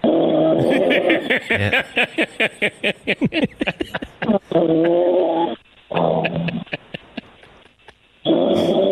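loud snoring

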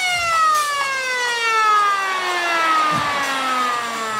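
siren-like horn sound effect

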